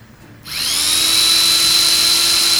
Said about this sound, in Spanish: Y es una sierra eléctrica más poderosa que la anterior.